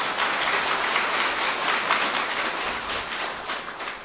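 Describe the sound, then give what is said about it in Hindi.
An audience at Madhuban applauds itself steadily for about four seconds, a dense wash of many hands clapping at once that stays loud throughout and tapers only slightly at the end, with no voices. “तो हाथ अपनी जोर से ताली अपने लिए।”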